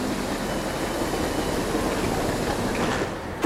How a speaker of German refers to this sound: Diesmal aber im Liegewagen. Das ist unser Wagen. Der hält jetzt an, dann können wir da einsteigen.